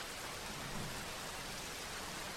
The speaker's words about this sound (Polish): Pozwól, żeby twój umysł w pełni się pogrążył w dźwiękach deszczu, które docierają do ciebie.